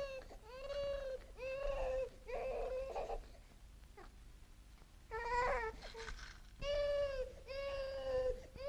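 A baby, crying because it was not powdered, cries in repeated wailing bursts, high-pitched and strained with a sobbing quaver, pausing briefly for breath between cries. No one speaks over it.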